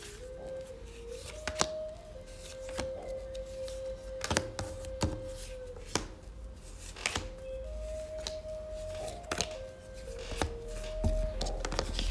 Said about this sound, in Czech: A já už se dívám na vaši fotku, míchám u toho karty a my se spolu podíváme, co nám Tarot poví o vás dvou.